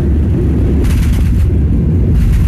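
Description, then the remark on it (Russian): A Boeing 737 jet engine roars loudly as the airliner with 176 people lands at Tolmachevo airport in Novosibirsk with an engine fire, filmed by a passenger through the window, broken by bursts of rapid, deep bangs from compressor stalls, matching flashes under the wing, in quick clusters over the constant rumble. “Из окна снимает пассажир, и на крыло, вид на крыло, и под крылом вспышки, и вот эти звуки бу-бу-бум, бу-бу-бум, совпадают со вспышками.”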